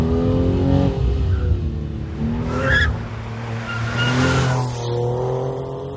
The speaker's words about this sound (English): Now we're approaching a very fast right and left turn. Here we'll get a chance to see the precision handling of the car.